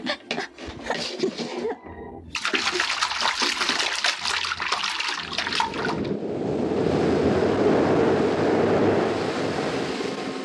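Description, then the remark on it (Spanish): Loud splashing and churning water, then a sudden shift to a steady, muffled rushing wash, as a person throws himself into the water and dives almost blind in the dark water, searching for a sunken trunk. No voices. “Sin pensarlo, Solín se arroja al agua y bucea casi a ciegas en la negrura líquida, mientras que su pensamiento sigue desbordándose en ideas desesperadas.”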